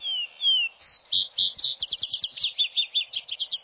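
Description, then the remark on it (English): A vesper sparrow sings alone: a few clear, slurred opening whistles, then a quick run of bright, rapid trills and chirps, high-pitched and fairly loud, lasting a few seconds. “And then gives over to the vesper sparrow that does his finest singing in the twilight.”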